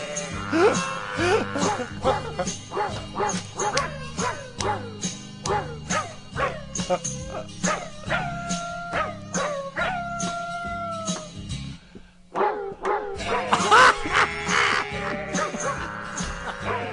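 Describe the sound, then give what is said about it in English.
Dogs bark and howl in a tune-like sequence over a steady musical backing on a barking-dog music album, the yelps and drawn-out howls loud, with a brief pause before a final burst of excited barking. “And that's why this selection was included, because it's not only barking dogs, but they included barnyard animals, which is quite edgy.”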